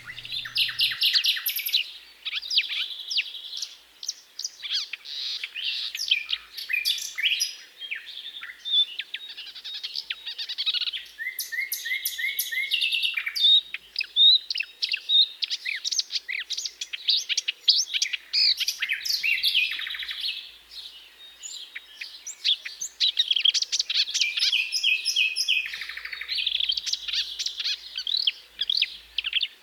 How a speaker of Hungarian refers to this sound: A műsor záró akkordjaként hallgassunk meg egy duettet két kiváló énekes a Kertigeze és a Fülemüle előadásában.